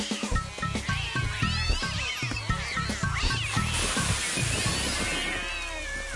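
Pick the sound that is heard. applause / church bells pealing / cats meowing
cats meowing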